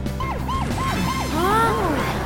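A police car siren wails loudly, its rising and falling tones repeating rapidly, with a second overlapping siren pattern joining midway over a steady engine rumble.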